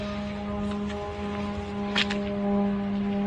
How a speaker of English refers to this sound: The Shahids are now arriving there. Well, that's a departure maybe, or a launch. These are the Shahid drones here that you can see on the screen.